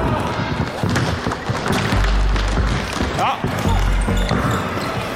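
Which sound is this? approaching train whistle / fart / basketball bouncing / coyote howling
basketball bouncing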